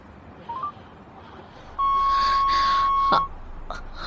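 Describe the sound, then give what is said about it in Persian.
A couple of quick phone dialing beeps, then a long, steady electronic tone like a phone ringing on the line, ending with a click and a short faint beep. No one answers or speaks. “چرا گوشی تو جواب نمیدی؟”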